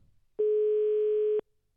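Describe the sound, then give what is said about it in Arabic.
A single steady electronic telephone ringback tone sounds for about a second, clear, starting and stopping abruptly against near silence, as Radio Aswat calls the office of the director of cabinet of the Khemisset prefecture. “الهاتف يرن، تنتمنى انهم يجاوبونا.”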